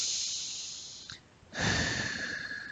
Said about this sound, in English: So it's filling you up all the way to the front and taking some nice breaths with that, breathing in and breathing out.